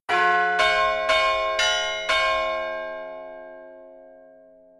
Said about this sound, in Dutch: Vroeger luidde de klok soms onverwachts.